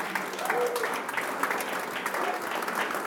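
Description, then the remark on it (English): An audience claps hands in praise to God during a morning service, a dense, steady wash of applause from many people for a few seconds, with faint voices mixed underneath. “Give Him a hand clap of praise one more time this morning.”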